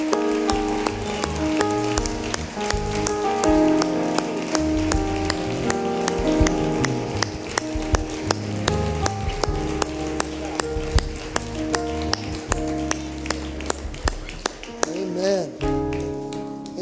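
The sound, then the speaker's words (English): A church audience claps their hands steadily for people coming forward to the altar for prayer, a dense patter of many sharp claps that continues for the whole stretch, with voices and sustained tones underneath. “Keep on clapping because they're keeping on coming.”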